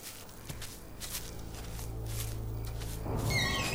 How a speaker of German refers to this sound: Habt ihr das gehört? Ich glaube, das war ein rostiger Baukran, der im Wind quietscht.